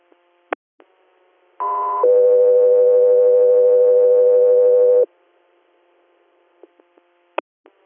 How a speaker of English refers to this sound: Air, standby for tones.